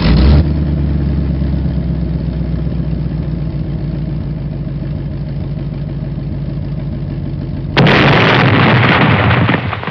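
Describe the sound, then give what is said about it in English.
A car engine idles with a steady low rumble for several seconds, then a sudden loud explosion bursts out near the end, followed by a sustained roaring crackle. “When you get into a Volkswagen, they can explode at any time.”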